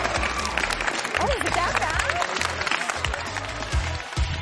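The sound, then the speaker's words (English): Steady audience applause for Jonathan Jones, with dense, rapid clapping throughout, mixed with crowd murmur, scattered cheering voices and some low thumping underneath. “Guys, give Jonathan Jones a big round of applause.”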